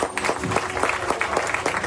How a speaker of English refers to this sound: One clap, clap, clap.